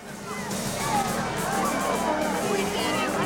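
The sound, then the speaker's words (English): A large crowd of spectators pouring from the stands after a cadet regiment's ceremony in sunshine chatters all at once, a steady, dense hubbub of overlapping voices with no single speaker standing out, constant throughout. “then folds his arms and looks around him, searching the crowd of spectators as they pour from the stands.”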